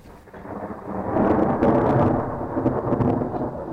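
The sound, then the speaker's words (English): Deep rolling thunder from a monsoon storm in Oregon Pipe Cactus National Park rumbles and swells over a few seconds, loud and broad, with the hiss of steady rain beneath it and no voices. It was recorded by an acoustic ecologist lying on the ground outside, surrounded by microphones. “Garth Payne wasn't even waiting for a monsoon storm when he ended up in the middle of one.”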